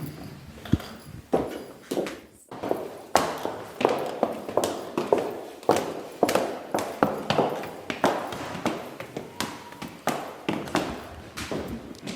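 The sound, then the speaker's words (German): Steady footsteps climb a stairwell from the ground floor to the second floor, heading to a speech lab, each step a sharp tap or knock repeating in a regular rhythm, clear and reverberant, with no talking. “Ja, da gehen wir in die zweite Etage, gehen wir aus dem Erdgeschoss nach oben in unserem wunderschönen Treppenhaus in die zweite Etage und da gehen wir ins Sprachlabor.”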